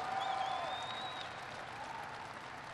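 A large crowd claps steadily in a loud, dense wash of applause that holds for a few seconds, with a thin whistle rising over it early on.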